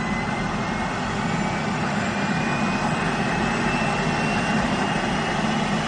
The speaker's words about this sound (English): The button reads, engine start. Like this. 1 second. Turbine helicopter starter. Listen.